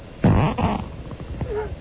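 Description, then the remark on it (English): A loud, buzzy fart lasting about half a second, sputtering in two bursts, followed by quieter rumbling and a short squeaky whine near the end. No one speaks. “One of us farts, the other isn't sponsorable.”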